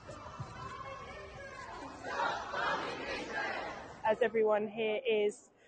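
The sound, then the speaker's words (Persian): A crowd of protesters at a demonstration against the British government's support of Israel, shouting for the rights of Palestinians, especially mothers and children, in a dense, continuous roar, swelling midway, then a few sharp, loud chanted calls in quick bursts near the end before fading out. “همه کسانی که اینجا حاضرن حقوق فلسطینیان به ویژه مادران و کودکان رو فریاد میزنن.”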